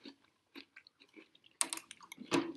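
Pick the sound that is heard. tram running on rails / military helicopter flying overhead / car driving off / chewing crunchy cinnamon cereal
chewing crunchy cinnamon cereal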